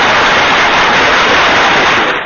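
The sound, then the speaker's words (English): A burst of dense, steady applause from a crowd for a first-time caller on the Kevin Smith Show, a continuous wash of clapping that holds at an even, loud level for about two seconds before tapering off. “Well, let's get some applause up here for you.”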